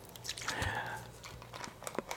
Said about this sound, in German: dann noch einen Schluck aus der Flasche, wie wir eben gehört haben.